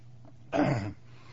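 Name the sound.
coughing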